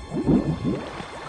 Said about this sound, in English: The water bubbles above the car as the rest of it finally gets swallowed up by the swamp, leaving no trace.